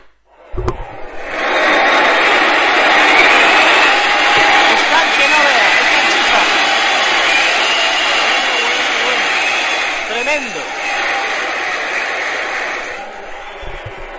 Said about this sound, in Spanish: Escuchen el abucheo tremendo de la afición del Talavera.